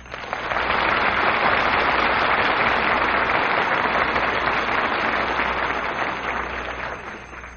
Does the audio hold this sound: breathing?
no